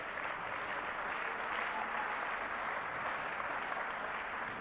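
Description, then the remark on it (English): A crowd claps for Jesus during a sermon translated from English into Finnish, in dense, continuous applause, a broad even wash of many hands that holds at a constant level throughout with no talking over it. “Yes, give a clap for Jesus.”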